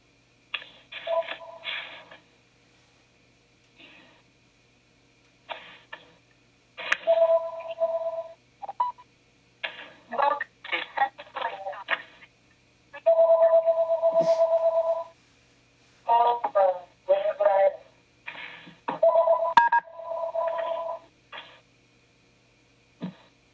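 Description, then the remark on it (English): A run of short telephone keypad tones beeps out in quick bursts, broken by a longer steady tone partway through, as a cell phone dials and rings to reconnect a call. Fairly clear, with no talking. “Just give me just a moment to switch to a cell phone connection instead.”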